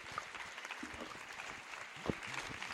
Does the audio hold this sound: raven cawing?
no